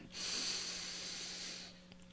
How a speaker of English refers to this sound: And while some of us are doing that, the rest of us, let's go ahead and focus our attention in our breathing. And let's take a deep breath in.